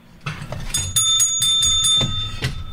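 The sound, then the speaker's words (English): A bicycle bell rings in a rapid series of bright, metallic dings with a sustained high shimmer, over a low rumble of background noise, ending with a couple of softer strikes. “Mine's got a clearer ring.”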